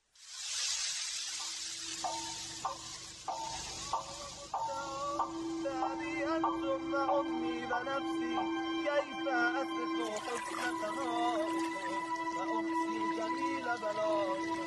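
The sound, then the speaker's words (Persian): Steady rain hisses loudly at first, then softens into the background as a sustained drone and a gentle melodic instrumental line enter over it and carry on. “ترنم باران را با هم میشنویم.”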